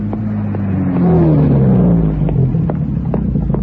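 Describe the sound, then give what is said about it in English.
A car engine revs up loudly, its pitch climbing and then falling as the vehicle pulls in beside a woman waiting for a bus in the rain, with a steady low rumble underneath and no voices. “Can I offer you a lift?”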